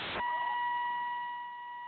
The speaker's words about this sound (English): Sounds like he's getting out of his car, and the beeper's going off. He must be getting out of his car.